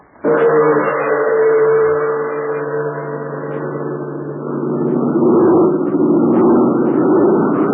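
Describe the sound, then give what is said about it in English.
A big American-made plane's engines drone steadily and loudly throughout, a thick sustained hum that swells slightly toward the end, with no voices; Jude Hennick's plane, flown for the Chinese Army, heading to a remote spot many miles from Chungking. “Yes, that's Jude Hennick's big American-made plane.”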